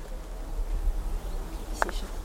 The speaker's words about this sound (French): il fait quand même un peu frais aujourd'hui, il y a un peu de pluie, mais il y a quand même des bourdons qui sont en fin de saison, là, vous voyez, derrière vous, regardez. C'est, peut-être avec le micro, vous allez entendre le bourdonnement.